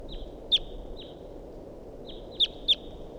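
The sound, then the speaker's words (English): A wild bird calls from up in a big pine tree above a net, in short, sharp, high-pitched notes: one at the start, then a quick pair near the end, over a steady low background hum, with faint thin tones trailing between calls. “So recording, this is the vocalizations of a wild bird that's here up in the big pine tree above the net.”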